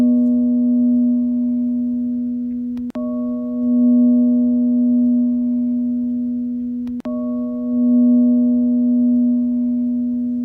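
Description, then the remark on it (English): A steady, sustained, high meditative toning tone hums continuously with rich harmonics, loud and unwavering, broken only by two brief clicks where the pitch texture shifts slightly. No one speaks. “And as you do, feel the tone of that high vibrational energy and let it resonate in your body.”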